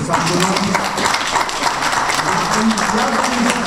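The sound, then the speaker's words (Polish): A crowd applauds a professor, thanked for 40 years with the history olympiad, steadily and loudly, many hands clapping in a dense, continuous wash for several seconds without a break. “Jeśli mogę, jeszcze raz oklaski.”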